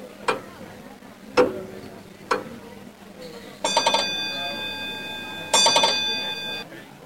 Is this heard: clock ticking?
yes